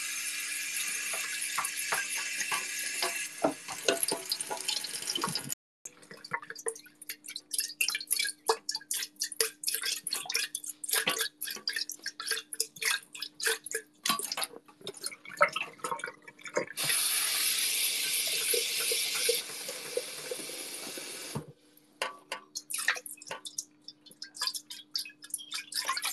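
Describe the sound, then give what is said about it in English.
Tap water runs into a small bowl, splashing and drumming irregularly as it's rinsed, with two bursts of fuller, steadier flow and brief pauses; moderately loud, no talking. “Yeah, you can hear it by the water bouncing around, like it's not a very big bowl.”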